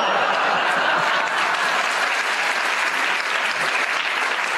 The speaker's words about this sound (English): Well, in spite of all the libelous things you said, you certainly enjoyed it and you deserved your round of applause.